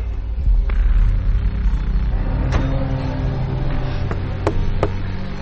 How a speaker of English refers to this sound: for those who are listening to the audio, there's a car pulling up